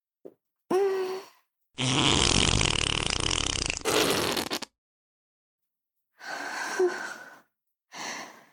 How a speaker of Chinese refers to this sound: 今天很开心啊，放个屁庆祝一下吧。